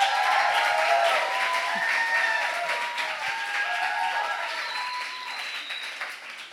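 An audience applauds, a dense, steady wash of clapping that stays loud for several seconds before gradually thinning out, with a few cheerful voices mixed in.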